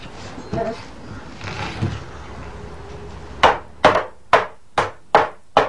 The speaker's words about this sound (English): What are you doing right now? I'm hamming. You're hamming? I'm hamming it. Hammering it? Yeah. Okay. I'm done.